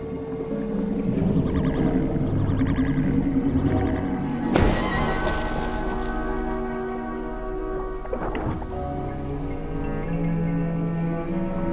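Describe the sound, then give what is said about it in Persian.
Underwater coral reef noise picked up by a hydrophone: a steady, dense wash of crackling and low humming tones, broken by two sharp, loud bursts midway and later, with no voices. “با استفاده از آخرین تکنولوژی میکروفون‌های زیر دریا متوجه شدیم که چقدر آنها پر سر و صدا هستند.”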